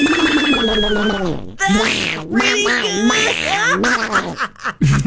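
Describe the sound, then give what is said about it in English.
A voice imitates Donald Duck's garbled, squawking quack in a rapid, loud burst of nasal, buzzy syllables, with a couple of brief pauses. “So because my aunt used to do a good Donald Duck, I tried for a long time to mimic that, like the like.”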